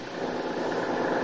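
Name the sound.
car engine idling outside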